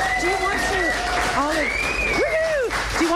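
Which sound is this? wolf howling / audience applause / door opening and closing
audience applause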